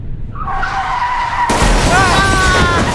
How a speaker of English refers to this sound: What was that? What happened? I think a motorcycle just ran right into us.